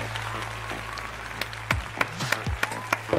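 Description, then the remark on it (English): An audience applauding, a steady wash of clapping with several sharper, louder individual claps standing out toward the end, over a low constant hum and faint murmuring voices. “The claps are constant.”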